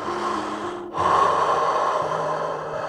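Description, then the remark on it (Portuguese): Someone imitates the wolf of the Three Little Pigs blowing hard at the pigs' brick house: a loud, breathy rush of air, a brief catch, then a long sustained forceful blow lasting about two seconds over a faint low hum. “Então o lobo encheu o peito de ar e soprou.”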